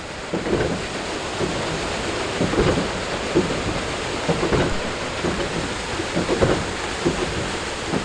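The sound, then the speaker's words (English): Water rushes and churns over a huge water wheel at the Saugus Iron Works, north of Boston, started in 1646: a steady, full-bodied roar broken by irregular splashing surges every second or so, with no voices. “The sound of water rushing over huge wheels is what drove an operation known as the Saugus Iron Works.”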